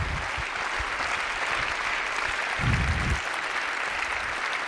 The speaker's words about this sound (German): Deswegen ganz, ganz herzlichen Dank. Jetzt nochmal großer Applaus für unser gesamtes Podium hier.